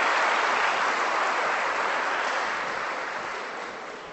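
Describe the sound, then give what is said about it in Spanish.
An audience applauds Christ together, a dense, sustained wash of many hands clapping, gradually easing off toward the end. No one speaks over it. “Ahora sí, el aplauso a Cristo.”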